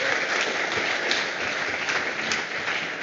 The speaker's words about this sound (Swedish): Tack så mycket. Vi ger applåd till de här fina barnen.